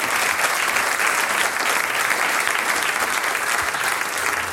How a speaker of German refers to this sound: Bürgermeister Manfred Komaritzky mit einem großen Applaus.